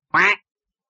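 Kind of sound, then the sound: animal, duck quacking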